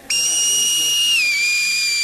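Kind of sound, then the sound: tool, bird call whistle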